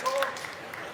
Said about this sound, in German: Aber das Publikum klatscht schon.